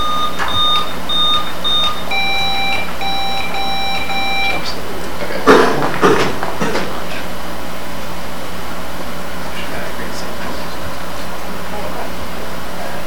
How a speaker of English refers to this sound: Can you figure out what's going on with this thing? The buzzer. Yeah, it's probably worth figuring out. Buzzer check in.